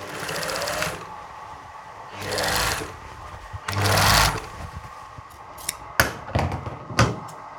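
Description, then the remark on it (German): A sewing machine shortening a pair of trousers runs in three short bursts of rapid mechanical stitching, each a second or so long, followed by a few sharp clicks and clacks as fabric is adjusted. “Ich versuche gerade, eine Hose zu kürzen.”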